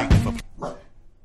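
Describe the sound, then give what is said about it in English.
Dogs bark twice: a loud, full-throated bark followed a moment later by a shorter, softer one, with nobody talking. “the dogs don't like that song.”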